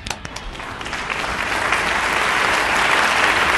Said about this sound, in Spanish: No, pero un agradecimiento y un aplauso para él. Vamos. Un aplauso ahí.